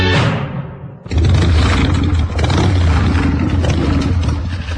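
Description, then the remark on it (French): The engine of Daniel Mermet's Peugeot car winds down briefly, then roars back up loudly into a sustained, gritty rev that stays powerful to the end, with no talking. “Eh oui, c'est Daniel Mermet dans sa Peugeot”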